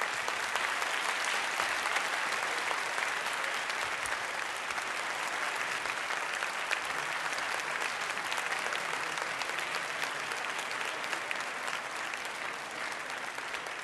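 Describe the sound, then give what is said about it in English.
A crowd applauds the entire panel of a debate, clapping steadily for about fourteen seconds, a dense, even wash of many hands at a constant loud level with no voices standing out. “And may I invite a round of applause for our entire panel.”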